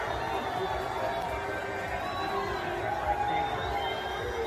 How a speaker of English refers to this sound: So listen, I won't be the one that says there are no cheers there. There are obviously some cheers there, but there are a lot of boos. You can also see people flipping off Trump.